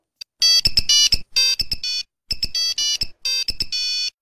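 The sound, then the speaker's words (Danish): A shrill monophonic ringtone from a Nokia 3210 (also on the 3310) plays alone: rapid bursts of beeping square-wave notes in a bouncy melodic phrase, repeated twice, loud with short gaps between groups. “Det er den, der hedder Kick Mono ringetone fra Nokias 3210, eller faktisk 3310 også.”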